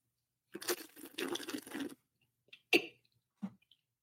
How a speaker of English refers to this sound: when you drink wine, you got to slurp it